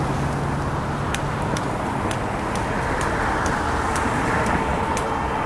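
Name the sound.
road traffic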